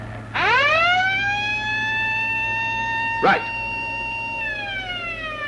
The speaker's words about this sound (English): Switch the alarm back on.